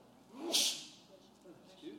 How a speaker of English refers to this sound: Bless you.